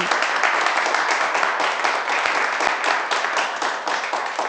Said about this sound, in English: The children don't laugh. They clap and shout, "Hooray, Johnny!"